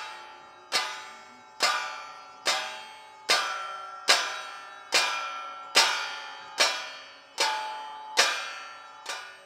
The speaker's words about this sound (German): Die Turmuhr schlägt 12 Mal.